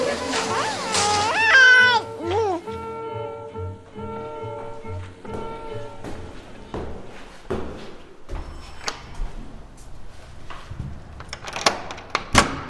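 A door is shut firmly with a few solid thuds and knocks by someone who has just sat down inside. Tonal, wavering sounds come near the start, and the shutting is moderately loud.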